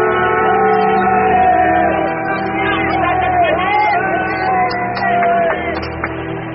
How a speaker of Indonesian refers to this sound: Puluhan orang yang berdiri di atas tanggul Kali Garang bertepuk tangan, bersorak-sorai melihat air tiba-tiba surut dengan cepat. Sorak-sorai kembali pecah ketika tiba-tiba matahari muncul di sela-sela mendung.